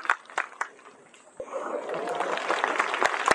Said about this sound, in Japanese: スタンドの皆様、もう一度盛大な拍手をお願いいたします。以上で始球式の終了いたします。